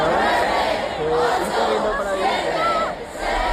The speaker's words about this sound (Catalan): I avui encara ressona l'emoció de la multitud que es va reunir ahir a la plaça de Callao de Madrid.